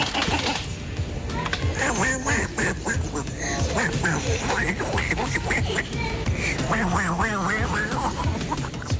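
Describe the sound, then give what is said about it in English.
A toddler pushing a Waddle Duck toy in a Walmart store imitates a duck, letting out a string of loud, rapid quacks that continue almost nonstop over a busy, noisy background. “The kid starts quacking just like Waddle Duck.”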